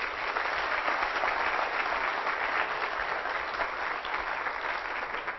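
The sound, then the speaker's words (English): A large crowd claps steadily for several seconds, a dense, even wash of applause with no voices rising above it, given as a clap for the Lord. “If the Lord blessed you with that, won't you let Him really know it by giving the Lord a clap off?”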